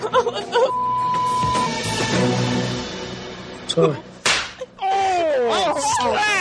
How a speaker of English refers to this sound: Sorry. Oh, oh, slap! Yo! Damn, boy!